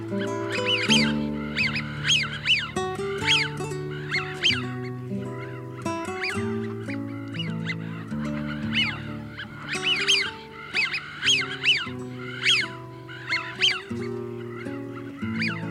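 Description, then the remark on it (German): Eurasian wigeon calls: a rapid series of sharp, whistling 'wheeoo' notes repeated many times, clear, over a steady low sustained drone-like background. “Das war die Pfeifente.”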